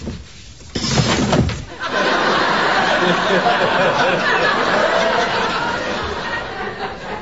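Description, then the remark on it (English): A loud burst of clunking and rattling from an office chair's back support being adjusted, lasting about a second, followed by a steady wash of audience laughter and murmuring chatter. “I totally messed with the back support on my chair. How do you fix this?”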